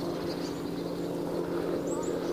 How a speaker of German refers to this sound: Klingt wie ein Hubschrauber. Das ist irgendwie da, wo die Sonne ist.